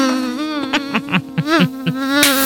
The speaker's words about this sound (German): Da ist noch eine Mücke.